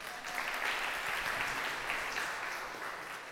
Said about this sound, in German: Da muss man gleich einen Applaus geben.